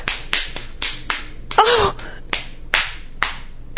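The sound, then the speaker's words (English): A hand slaps a woman's bare skin about eight times in a steady rhythm, each smack sharp and loud, with a brief vocal sound midway through. “I slap her so hard.”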